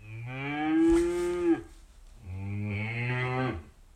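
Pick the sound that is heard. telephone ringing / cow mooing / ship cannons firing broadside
cow mooing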